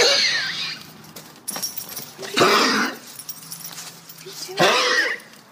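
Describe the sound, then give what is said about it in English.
A gavel bangs three times, about two seconds apart, each strike loud with a sharp crack and a brief ringing decay, as Judge John Hodgman rules. “This is the sound of a gavel.”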